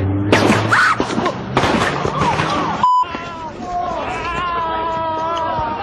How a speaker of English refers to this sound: Do we know it really didn't come from someone holding a 22 caliber handgun in the crowd? Listen to the report of the guns again on the Savage Nation and tell me what you think.